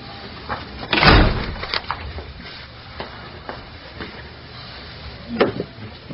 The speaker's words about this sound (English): Close the door.